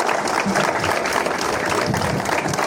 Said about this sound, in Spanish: Un aplauso para todos que están en la segunda fila.